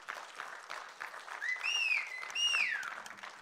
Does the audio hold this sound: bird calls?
no